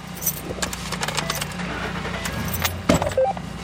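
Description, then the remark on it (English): Keys jingle and rattle as a Cass County Sheriff's Department captain climbs into his truck, followed by a low engine rumble and a thunk as it starts moving, driving towards sites where protesters and police have clashed, with no one speaking. “hops in his truck and drives towards several sites where protesters and police have clashed.”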